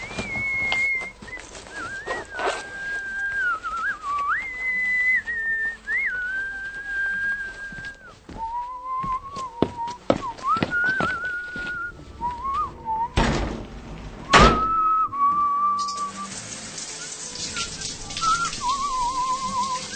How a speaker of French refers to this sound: Oui, cela aussi, c'est évident, quelqu'un prend sa douche.